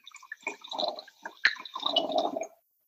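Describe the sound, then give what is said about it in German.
Wine glugs and splashes into a glass in uneven bursts, with a sharp clink partway through, then a steadier gurgling pour that stops abruptly. “Und deshalb würde ich sagen, dass wir da jetzt mal direkt das Glas füllen und den Wein probieren.”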